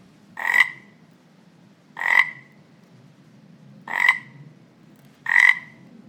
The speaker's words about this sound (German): Und zwar hörst du hier den Prompt, mach mir bitte ein Geräusch von einem quakenden Frosch.